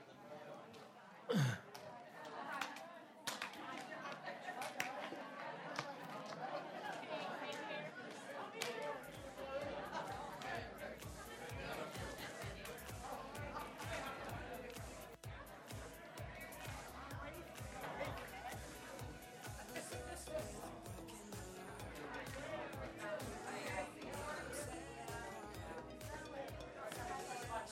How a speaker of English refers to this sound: So let's do this. Take about 2 minutes, stand up, slap, high five with at least two or three people, and just invite them to have a defining moment. All right? Let's go.